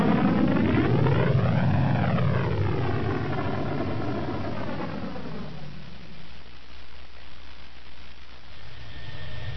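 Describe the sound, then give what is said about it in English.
The one still-functioning main engine of the spaceship Slave One fires up with a loud roar. A whining drone sweeps up and down in pitch, then settles into a steady, rushing blast of thrust. “he hit the button to fire up the one main engine that was still functioning.”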